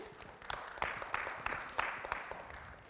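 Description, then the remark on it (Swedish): Scattered applause from an audience at a church youth camp, applauding a guest preacher: a steady patter of many hands clapping with a few sharper claps standing out, moderately quiet and continuing for a few seconds. “En applåd för det.”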